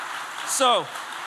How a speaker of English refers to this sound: If that has happened in your life, by round of applause, would you say amen to God?